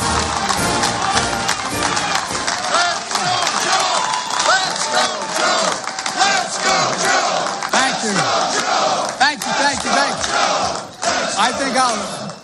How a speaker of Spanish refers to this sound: Entre vítores y aplausos recibían al actual presidente de los Estados Unidos, Joe Biden, en su primera aparición pública tras anunciar oficialmente que sí, que se va a presentar a la reelección el año que viene, en las elecciones de 2024.